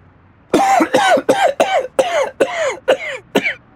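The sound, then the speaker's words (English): A man with a sore throat coughs in a loud fit: about nine harsh, hacking coughs in quick, fairly regular succession, with no one speaking. “I need something for a sore throat and can't stop coughing.”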